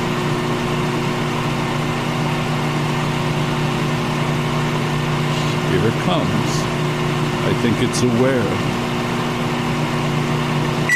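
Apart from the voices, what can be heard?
microwave oven running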